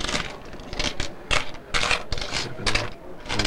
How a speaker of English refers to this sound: The employee counts up the last of the change.